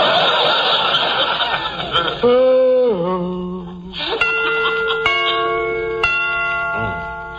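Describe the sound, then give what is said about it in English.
A snickering, noisy opening gives way to resonant clock chimes striking the hour: a few bell strikes ring out at a slow, steady pace, each one loud with a long, humming decay. “Got to remember to get them chimes made softer. No sense in letting the neighbors hear the time for nothing.”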